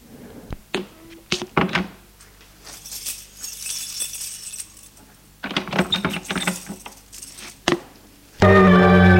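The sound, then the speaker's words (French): Someone leaves an apartment and locks the door with a key: sharp clicks and taps, keys jangling and metallic lock clatter, then an abrupt loud, sustained buzzing tone in the last second. “Soupir, sort de l'appartement et ferme à clé.”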